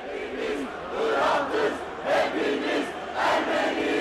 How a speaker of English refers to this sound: Within hours, thousands of people, both Turks and Armenians, gathered outside the paper chanting, "We are all Haran Dink, we are all Armenians."